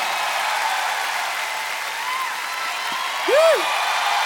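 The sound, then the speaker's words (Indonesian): Steady, dense applause from an audience fills the whole stretch, a continuous wash of clapping at even loudness, with a brief rising-and-falling whistle or cheer near the end. “Okey, para hadirin, tepukan untuk”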